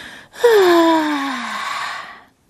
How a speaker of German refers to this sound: Clara bekommt dabei so furchtbare Langeweile, dass sie nochmal laut und lange gähnen muss.